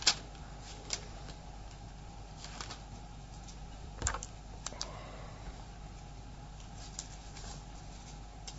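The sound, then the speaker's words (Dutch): Sparse, irregular keyboard clicks tapped out one at a time against a quiet background hum, with scattered light keystrokes and short pauses, no voices; someone is typing a corrected Bible verse reference, Romans 11 verse 20. “Ik moet gelijk even goed erbij schrijven, want...”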